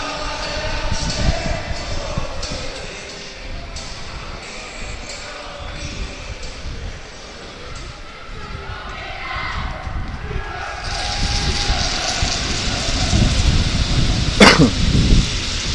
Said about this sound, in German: Ja, der Wind weht doch recht heftig hier. Das hört man leider auch über das Mikrofon. Da hilft auch kein Windschutz mehr gegen am Mikrofon selber. Das ist so heftig hier, dass da auch ein Windschutz aus Schaumstoff da nicht mehr sonderlich viel hilft